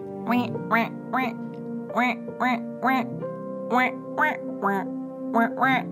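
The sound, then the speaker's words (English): A series of about a dozen loud duck quacks in a steady rhythm, shifting slightly in pitch as the ducks pick out the first few lines of a Christmas carol, each duck taking a note one after the other like a bell choir, with no other sounds around them. “they quacked the first few lines of Jingle Bells”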